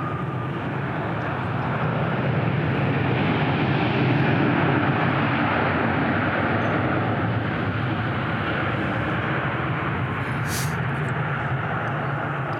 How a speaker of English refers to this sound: And let this plane pass.